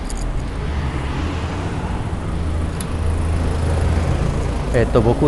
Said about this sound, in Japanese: 今夕暮れ時やからなんか車とかもちょっと面白いですね。あの夜中と違ってすれ違う車が立てる音ね。